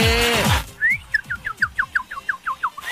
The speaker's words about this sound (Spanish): ¡Ah! ¿Qué pasó ahí? Y está ahí el pajarito cantando, vos.